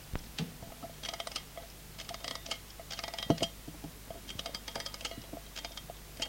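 An alarm clock being wound: bursts of quick, light metallic ratcheting clicks repeating in clusters, with one sharper click partway through and no voices.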